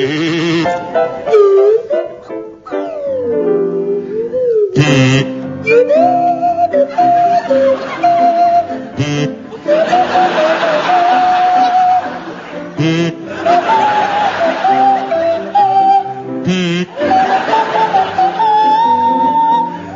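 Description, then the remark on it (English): Barry Cryer on a buzzy kazoo and Graham Garden on a sliding swanee whistle play a bouncy Sound of Music tune together, the whistle swooping up and down between the kazoo's nasal, steady phrases, loud and continuous throughout. “featuring Barry Cryer on kazoo and Graham Garden on the Swanee whistle?”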